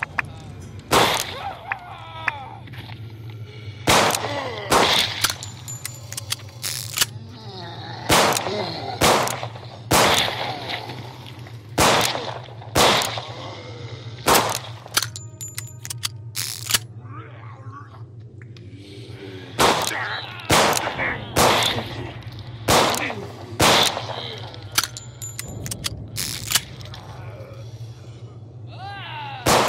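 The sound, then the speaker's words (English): Video game gunfire from a micro SMG and a revolver: about twenty sharp cracks in uneven bursts and single shots, over a steady low electronic hum, with some faint talk in between. “Micro SMG. Revolver.”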